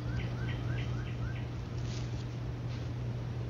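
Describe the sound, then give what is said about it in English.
Birds chirp in a quick series of short, rising calls early on, then fainter scattered tweets, all over a steady low hum and soft background noise. No one speaks. “Yeah, we just got some birds. That's peaceful.”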